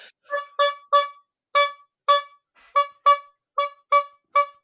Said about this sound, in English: It's enough honking. It's never enough honking. It is never enough honking. That's never enough honking.